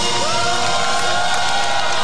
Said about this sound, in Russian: и скандированием «Ника-ника» пара десятков представителей оппозиционных партий и гражданских активистов у стен Руставской тюрьмы номер 12 старались докричаться и подбодрить лидера нацдвижения Нику Мелия.